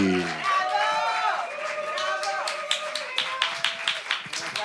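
Audience applause with cheering and whoops at first, then settling into a steady run of sharp, rhythmic claps that carries on loudly to the end.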